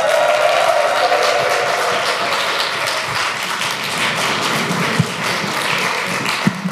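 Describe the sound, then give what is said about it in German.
Steady, dense applause from an audience at a poetry slam, a 10-point applause welcoming a performer to the stage: a continuous wash of many hands clapping at an even loudness for several seconds, with a few sharper individual claps standing out near the end. “Bitte klatscht ganz fest in die Hände”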